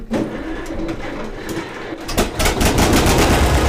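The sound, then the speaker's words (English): A 1954 John Deere tractor engine on a ranch in Riesel, Texas, runs with a steady, rough low chugging, swelling louder partway through as rhythmic clattering pulses and a broad mechanical rumble fill the sound. “If you want to know what a 1954 John Deere tractor sounds like, he'll be happy to oblige.”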